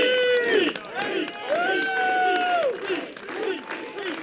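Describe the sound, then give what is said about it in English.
An outdoor overflow crowd of at least 100 people at a Mayor Pete rally in New Hampshire, revved up by him from a bench, cheers loudly and continuously, with several voices holding long rising and falling whoops over a steady murmur of shouting. “So Mayor Pete stood on a bench outside and revved up the crowd.”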